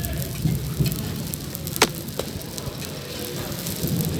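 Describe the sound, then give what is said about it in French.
Steady crackling sizzle of Moroccan crêpes (msemen) frying on a hot pan at a crêpe stand as a woman turns them over and over, with a few sharper pops and clicks standing out over a continuous hiss; no one speaks. “Ces crépitements, ces odeurs de crêpes marocaines me ramènent en 1991”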